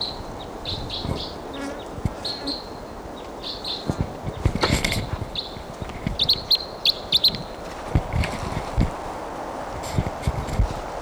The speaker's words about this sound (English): Bird, different bird.